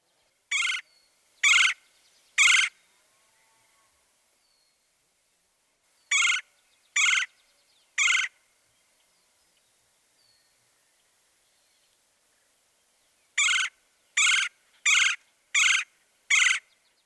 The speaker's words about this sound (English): This vocalization sounds more like a low-pitched chirr, chirr, chirr.